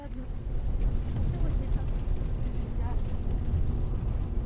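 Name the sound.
car interior ambience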